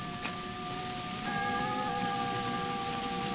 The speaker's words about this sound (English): What is that? Only the chimes of the hall clock. Striking the three-quarter hour. Three-quarter hour? Oh, then soon it will be midnight.